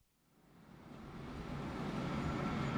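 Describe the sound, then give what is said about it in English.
A deep, continuous rumbling roar swells up from near silence and holds steady and loud as a train from London thunders along inside a long tunnel, with no voices. “The train from London was in the long tunnel.”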